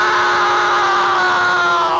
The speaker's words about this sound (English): As Bezos screamed in bloody exasperation, the Iceman then forced in Bezos' arms. The wailing of pain was unlike anything I had ever heard, or could ever hear ever again.